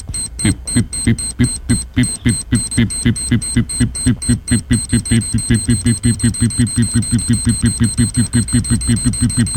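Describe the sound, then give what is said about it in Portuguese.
A time-bomb style ticking alarm: loud, rapid electronic ticks that quicken into a dense, steady pulse over a sustained high-pitched tone, with no voices. “Bomba relógio.”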